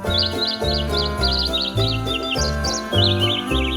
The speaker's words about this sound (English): Now that your holiday shopping list is figured out, enjoy this bird singing Jingle Bells.